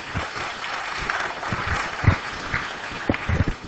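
Steady audience applause, a dense wash of many hands clapping at moderate loudness, with a few sharper individual claps standing out, and no talking over it.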